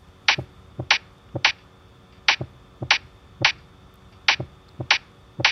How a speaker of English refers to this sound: I want you to listen to this, and I want you to try to match the beat pattern by clapping once you've heard it.